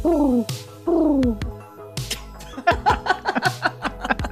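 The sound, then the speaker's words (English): A person imitates pigeon cooing: two drawn-out, falling hoots followed by a quick, bubbling run of choppy coos, fairly loud and with no other talking. “Is that your pigeon?”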